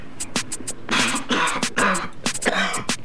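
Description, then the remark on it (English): A loud coughing fit: a rapid string of harsh, raspy coughs and throat-clearing bursts tumbling over one another for a few seconds, with no talking. “Seems I can't smoke or laugh now without coughing.”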